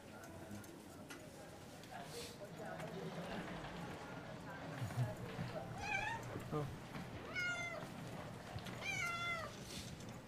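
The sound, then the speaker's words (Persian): A pet cat named Zoghal meows three times in the second half, drawn-out, each cry rising and falling, as it is put in a basket to be taken to the clinic, over a noisy background with people talking. “گفتم درگیر این گربه هم.”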